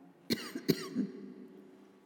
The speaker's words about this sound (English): Thank you, Lord, that I will not cough anymore.